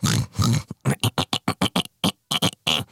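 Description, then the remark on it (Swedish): A pig named Humle oinks in a hat shop, answering the shop assistant and pointing at a hat with its snout: two longer grunts, then a quick burst of short, choppy oinks in an uneven rhythm, fairly loud with no talking. “Svarade grisen och pekade mot hatten med sitt tryne.”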